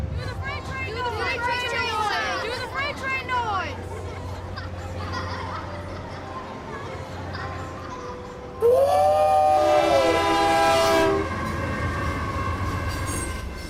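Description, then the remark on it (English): A loud whistled imitation of a freight train horn bursts in partway through, a sustained chord-like blast lasting a few seconds over a rumbling background, after softer voices and sounds. “He could make a whistle like a freight train sound just like you were standing next to a freight train.”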